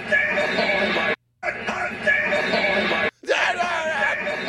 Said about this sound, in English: You hear someone screaming like, we got him on it.